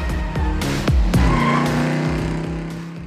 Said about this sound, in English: And of course, South Beach, that iconic shoreline of newly built skyscrapers reaching into the sky, with drop-top convertibles revving up and down Ocean Drive.